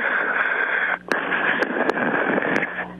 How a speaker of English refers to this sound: No, listen to just breathe. I just want to hear you breathe, okay? Yes, I think it's ridiculous. Just do it, please. That is not healthy. God, it sounds like there's a phlegm package just jammed in your neck, man.